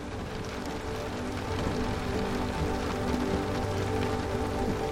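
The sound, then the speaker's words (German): Steady rain patters down on tree leaves, a dense, even hiss of countless drops with no pauses, constant throughout, with no voices. “Bäume mit Blättern, die im Regen wie flüssiges Silber glänzen, säumen die Strecke.”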